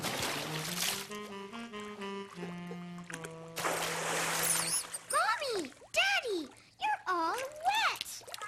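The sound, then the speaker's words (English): Bursts of water splashing in a bathtub come in two loud rushes over a light musical tune, followed by playful, sing-song vocal sounds from the cartoon child Caillou at bath time. “Discovered that bath time could be splash time.”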